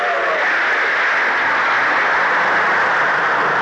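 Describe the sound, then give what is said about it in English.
The 516 train rushes past Dandridge without stopping, coming on with undiminished speed, a loud, steady, continuous roar that holds level for the whole moment without fading, with no voices over it. “As Mary watched the train”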